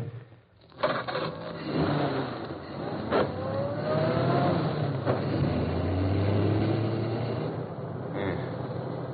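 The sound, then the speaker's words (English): A police squad car's engine rumbles steadily for several seconds, its pitch sliding as the car slows and stops at a street corner, with a couple of sharp clunks along the way and no voices. “Squad car stopped at the corner.”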